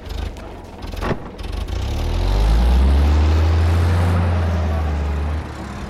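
The heavy engines of a row of flatbed trucks rumble to life and rev up as uniformed, armed men pile aboard. The deep, loud drone builds and holds steady, then eases off as the trucks pull away.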